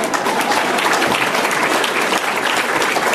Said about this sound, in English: I love the way we see the academia folks supporting each other. It's just wonderful. You can clap. Really, you can clap for that.